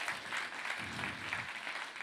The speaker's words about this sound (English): Let's give Hannah a round of applause.